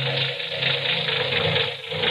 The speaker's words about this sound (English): Say, that engine of yours sounds like real tire and iron.